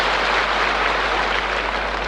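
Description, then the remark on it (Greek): Audience applause during a speech about Buddhist monks and China fills the whole stretch, a steady, dense wash of many hands clapping at an even loudness, with no voices standing out above it. “Κρατήστε το χειροκρότημά σας, δεν είναι αυτό που εννοούσαν.”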